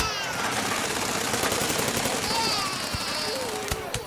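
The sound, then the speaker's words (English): A loud, continuous barrage of explosions, with sharp cracking bursts firing in rapid succession for several seconds and faint voices underneath the din. “Explosion?”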